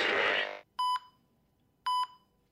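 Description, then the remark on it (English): A burst of hissy noise cuts off, then two loud electronic beeps from a heart rate monitor in a hospital room sound about a second apart, each tonal and harsh with bright harmonics, standing alone against near silence. “I wake up to a harsh beeping.”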